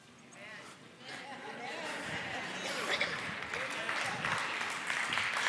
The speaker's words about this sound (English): The guys are hesitating and clapping right now, but it is true.